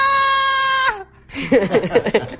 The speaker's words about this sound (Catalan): pues els envia un àudio amb un crit que jo crec que s'enteren tots els veïns, i a sobre després se'l posa en repetició, aviam si li ha quedat bé. I llavors... A veure quin és el crit quan marca el Barça.